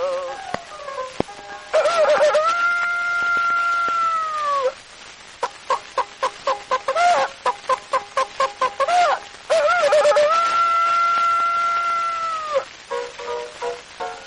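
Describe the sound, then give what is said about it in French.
A rooster crows twice in long, drawn-out calls, with a quick run of rapid hen clucks in between. The calls are loud, with no talking. “Puis arriva l'air conquérant coq avec sa poulette, l'un clairon dans le cocoton, et se joignent à la fête.”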